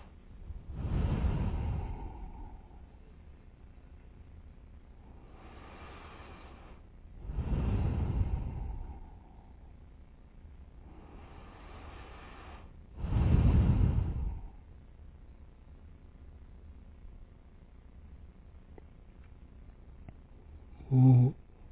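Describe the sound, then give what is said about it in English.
Three rounds of slow, deep breathing through both nostrils, the last round of a nine-round breathing meditation: a soft, airy inhale followed by a heavier, rushing exhale. Quiet pauses separate each round, and no one speaks. “So now the last round, you know, it's from the both nostril, inhale, exhale.”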